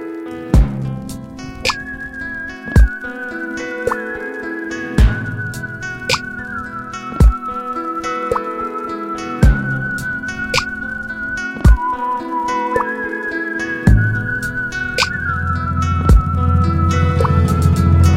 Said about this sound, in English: Let's take a listen to some of the music created by ARP synthesizer owners.